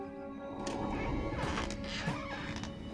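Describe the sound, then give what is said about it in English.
Glass doors burst open with a sharp rattling crash and a few quick clattering knocks, loud, over a steady sustained musical drone. “A set of doors open.”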